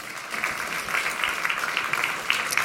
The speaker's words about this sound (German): Einen kleinen Applaus. Deine Bühne.